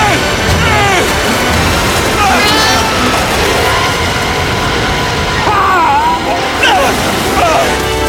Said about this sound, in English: White water nears. Mitch and Norman are driven under the churning water.